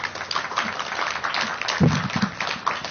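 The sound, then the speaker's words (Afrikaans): An audience applauds a guest at an Afrikaans book event steadily for a few seconds, a dense, even patter of many hands clapping at once, moderately loud, with a brief low murmur or cheer rising midway. “gee baie lekker aan een klap”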